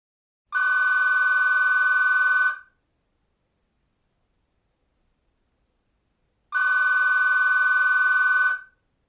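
A telephone rings twice, each ring a steady two-second electronic trill with a long silent pause between. The rings are loud, with no voices.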